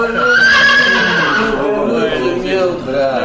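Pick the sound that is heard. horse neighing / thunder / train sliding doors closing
horse neighing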